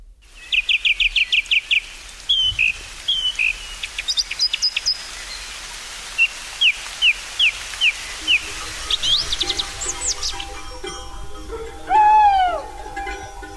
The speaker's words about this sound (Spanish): Septiembre, alta noche. Los rebaños dormitan tranquilos en la majada, guardados por los perros. Ulula un cárabo, que marca así el paso de las horas.